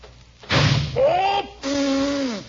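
door slamming

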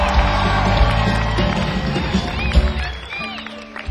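audience applause and cheering

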